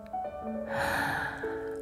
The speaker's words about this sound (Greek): Παίρνουμε βαθιές ανάσες.